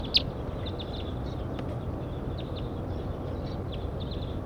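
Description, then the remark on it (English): Scattered short, high-pitched chirps and call notes from a larger flock of birds flying over, repeating irregularly over a steady rushing background noise, with one brief sharper call near the start. “As a larger flock flew over.”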